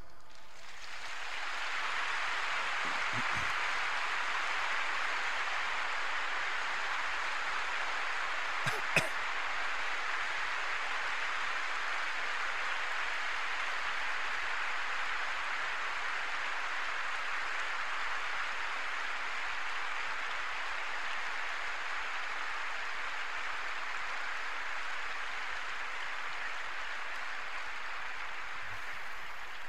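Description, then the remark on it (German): Audience applause for the announcement of a new 320-page book for young people, 'Fragen junger Leute, praktische Antworten, Band 2', fills the whole stretch: a dense, steady wash of many hands clapping, swelling in over the first couple of seconds and holding at an even, fairly loud level with no voices. “Der Beifall war berechtigt.”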